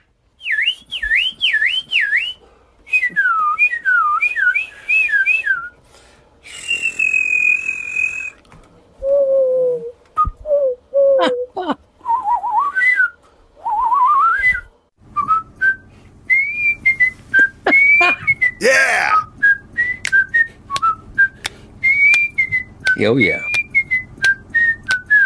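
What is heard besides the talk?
human whistling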